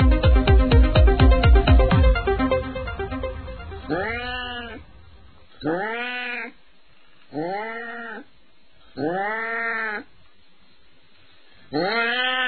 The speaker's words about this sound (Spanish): El sonido que hoy nos llega a la radiosfera nos pone los pelos de punta. Es el llamado nocturno de una gata en celo.